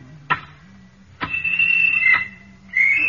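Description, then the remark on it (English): A shrill, steady work whistle signalling workers that they may stop raking gravel blows in two long high-pitched blasts, the first lasting nearly a second. Sharp clicks punctuate the sound, with a low hum underneath. “And the whistle which says you may stop raking now.”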